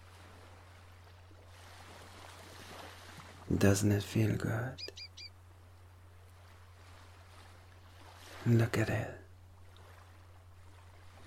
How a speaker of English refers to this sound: Look at the soft, broken waves caressing and soothing your feet.